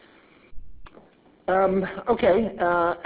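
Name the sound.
cough and throat clearing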